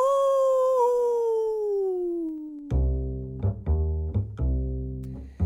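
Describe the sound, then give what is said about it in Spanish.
A long, drawn-out werewolf howl slowly falls in pitch, then gives way to four loud, rough, choppy bursts in quick succession, prominent with no talking. “El hombre lobo.”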